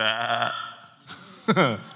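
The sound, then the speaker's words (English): Sheep bleating: a long, wavering bleat opens, followed after a short pause by a second, shorter quavering bleat, both fairly loud and clear with no talking. “I can hear sheep in the background.”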